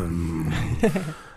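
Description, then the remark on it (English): A voice imitates a growling stomach with a low, sustained rumbling growl that breaks into a short gurgling warble near the end, fairly loud, with no words spoken. “And when I listen to my growling stomach, it makes like...”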